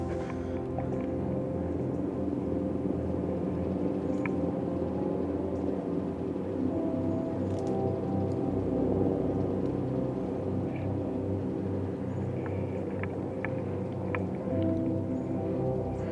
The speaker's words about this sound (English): Oh. Listen to that chopper.